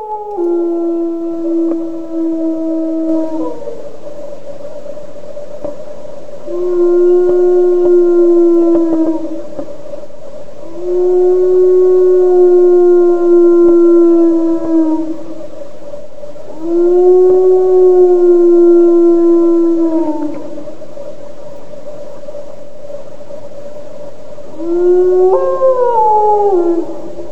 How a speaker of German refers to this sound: why we hear the Pavarotti of wolves howling